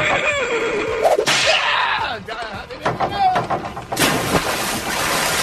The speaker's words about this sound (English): That horse had a human-like scream, actually, which really I found a bit distressing.